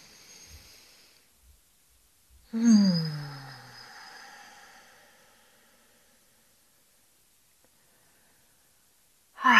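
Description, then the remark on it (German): A soft, airy inhale during a guided breathing exercise, a brief pause, then a long, loud breathy exhale that fades out slowly, with no talking over it. “Noch 2-mal so, atme ein, lass die Bauchdecke nach außen wölben.”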